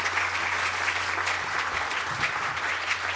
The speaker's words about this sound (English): So can we have a round of applause for a fantastic team?